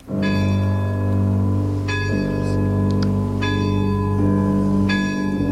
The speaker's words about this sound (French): C'est la grande horloge du château qui sonne les 12 coups de minuit.